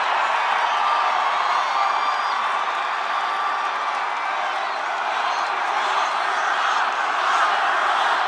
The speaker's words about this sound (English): Trump supporters yelling, "Lock her up."